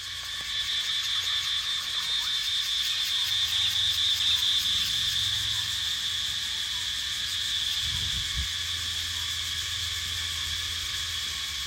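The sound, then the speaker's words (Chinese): A dense, continuous cicada chorus fills a dense forest of very tall trees at dusk by an ancient temple, a loud shrill buzzing that stays steady throughout with faint low rumbling beneath, no voices present. “然后在这个树林当中是震耳欲聋的蝉鸣，我录了一段，大家可以听一下。”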